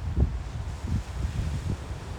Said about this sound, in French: Vous allez peut-être entendre le bruit des vagues. Il y a du vent. Je sais pas comment ça va sortir. En tout cas, je vous le fais pareil. Je voulais en faire un dehors. Je suis vraiment sur la plage, là. Entendez-vous?